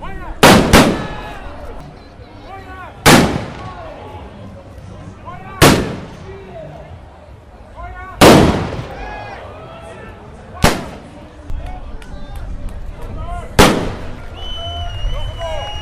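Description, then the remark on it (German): Ceremonial cannon salute shots (Böller) fired to open the Jahrmarkt fair in Bad Kreuznach boom out one after another, six loud blasts spaced a few seconds apart, each echoing briefly over a murmuring outdoor crowd. “Ja, und der Kreuznacher Jahrmarkt wird jetzt gleich eröffnet mit 7 Böllerschüssen und einem Ehrensalut mit 1 Stunde Verspätung.”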